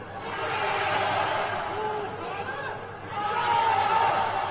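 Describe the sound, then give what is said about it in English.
Many quarantined residents of an apartment complex in Wuhan shout and call out of their windows together in a steady, overlapping din, calling "Wuhan Jiayou" as encouragement. It dips briefly about three seconds in before swelling again with raised, sustained cries. “There was also this sort of eerie but beautiful video of people in an apartment complex in Wuhan shouting out their windows.”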